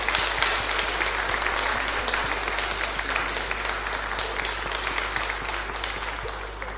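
A crowd applauds steadily for several seconds, a dense patter of many hands clapping at an even level with no voices standing out.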